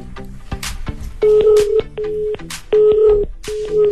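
Telephone tones on a line as a call is placed and rings four times: short steady electronic beeps repeat in a halting pattern, mixed with sharp clicks and bursts of noise, fairly loud, with no one talking.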